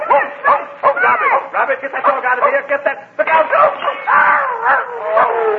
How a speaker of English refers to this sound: get that dog out of here. Get that. Look out.